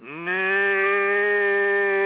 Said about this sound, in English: That's the frog? That's a cow.